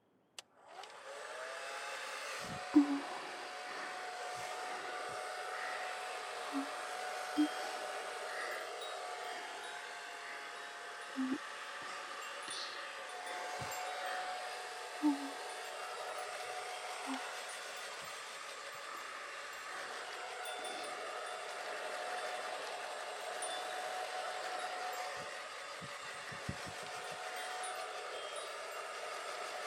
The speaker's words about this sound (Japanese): 濡れてると髪、すきすぎちゃいますから、軽くドライヤーで乾かしますね。